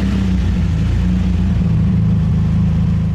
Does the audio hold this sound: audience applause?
no